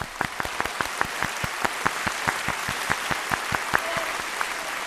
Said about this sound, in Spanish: Venga, un aplauso Venga, para un todos. Aplauso. Muchas gracias, amigos.